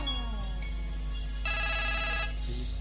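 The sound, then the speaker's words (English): A mobile phone ringtone tune plays its electronic melody clearly, with a brighter, buzzier stretch in the middle before the simpler tones return. No one speaks. “Mobile phone DJs coming live and direct 24/7.”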